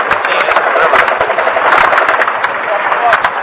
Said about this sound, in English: We've got gunfire from the White House. Ooh, gunfire from the lower building, the lower floor of the White House, 3rd floor apparently. Jesus. Tracer bullets going into the 3rd floor, this lower floor.